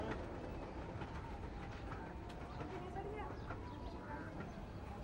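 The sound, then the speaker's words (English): A harbour line train rumbles past on a two-track line in Govindi, a steady loud roar of wheels and carriages with faint squeals and clatter over the rails. “Four seconds later, the train's upon us, out of nowhere, like a sudden monsoon downpour, quite literally come and then gone in a flash.”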